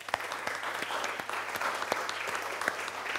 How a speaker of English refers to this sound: Thank you. I think we should all give them a round of applause, actually.